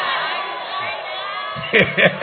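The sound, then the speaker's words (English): A crowd of about 20,000 people roars and cheers in a dense, continuous wash of voices, with a couple of louder surges of shouting near the end. “Also, crowd here, look at 20,000 people.”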